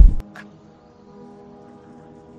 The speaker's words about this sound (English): Do you hear the horn? That means it's noon in Vancouver. There's two times you can tell in downtown Vancouver. One is noon, where that foghorn rings, and the other is the 9 o'clock gun.